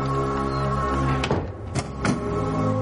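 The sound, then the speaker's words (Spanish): A door shuts with a few short knocks and a latch click, heard over a steady humming musical background with no one speaking. “cierra la puerta.”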